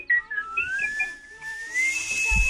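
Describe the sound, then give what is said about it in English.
Someone whistles a wandering, tuneless line, the pitch sliding and wavering without settling into any melody, fairly loud and alone over faint room noise. “But like songs, or is he just whistling for the sake of whistling?”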